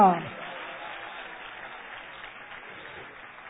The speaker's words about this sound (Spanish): Den un aplauso a Dios en esta noche. ¡Aleluya!